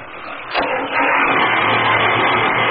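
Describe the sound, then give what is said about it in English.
A boat engine turns over with a brief burst, then catches and settles into a loud, steady roar that continues without pause. Nobody speaks. “Try the engine now.”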